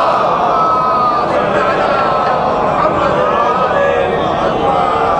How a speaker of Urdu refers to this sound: بلند آواز سے نعروں کا جواب دے تاکہ مجھے پتہ چلے آپ ابھی حوصلے میں ہے. نعرے تکبیر, ہاں گزارا ہے. نعرے رسالت, پوری طاقت سے نعرے حیدری.